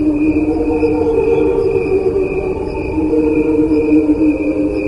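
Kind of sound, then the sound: insect, crickets chirping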